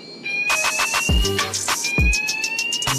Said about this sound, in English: It's so annoying. As distracting as that is, it can't get me away from this table. Why did that go? Someone just sprayed so much deodorant. No way. Anyone know why the fire alarm went off?